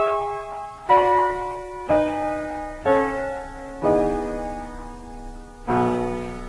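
Bells chime about five times at a steady, roughly once-per-second pace as the intro of a May 1955 vocal group record. Each strike rings out and overlaps the next in a full, resonant wash, with no voices.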